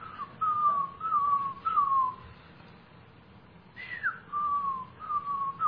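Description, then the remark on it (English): A person whistles an imitation of the night call of a bird that lives in the trees around a house: a series of short, clear, slightly falling whistled notes in two bursts with a pause between, moderately loud over a faint low hum. “We'll have the window open and at night and trying to get some sleep, and I'll hear this whee.”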